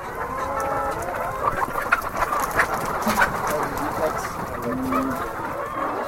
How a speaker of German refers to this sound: In den Gehegen der Großfarm von Kenneth Quarty des ehemaligen Präsidenten der Nationalen Vereinigung der Hühnerfarmer, drängen sich noch immer um die 100.000 Hühner